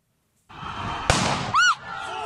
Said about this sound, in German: Demonstranten stehen vor einem Hochhausblock. Schwarz gekleidete Sicherheitskräfte mit Helmen zünden eine Blendgranate. Ein lauter Knall, weißer Rauch.